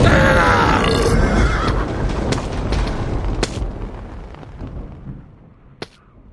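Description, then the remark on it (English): A long, loud, rumbling burp after eating a steak special. It starts forceful and gravelly, then slowly trails off over several seconds, followed by a sharp little click near the end. No talking. “the $1.99 steak special does repeat on you”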